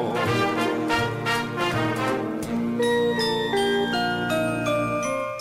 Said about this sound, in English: I hear bells ringing.